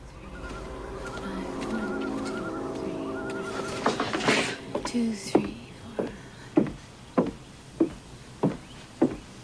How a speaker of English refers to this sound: Peering round the edge, she sees Electra, head bowed, counting her steps as she walks along.